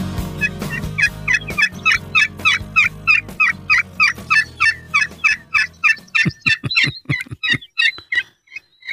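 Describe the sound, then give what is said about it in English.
A wild turkey's kee-kee call played from a phone app: a long, steady run of high, whistled peeps, about two dozen sharp notes in quick even rhythm, fairly loud, over a low hum early on, with no talking. “Oh, there's a nice kiki.”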